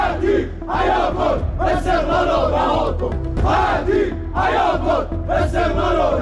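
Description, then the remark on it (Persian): A large crowd of Esteghlal football club fans, gathered in front of the club's building, chants protest slogans against the club's management, demanding Ali Khatir's resignation: loud rhythmic shouted phrases repeating in waves with brief dips between them, voices massed together over a steady low roar. “هواداران استقلال که به شرایط مدیریتی آبیپوشان اعتراض دارند، علیه مدیریت این باشگاه شعار دادند و خواهان استعفای علی خطیر شدند.”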